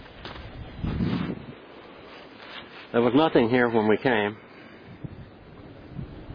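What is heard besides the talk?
creek water rushing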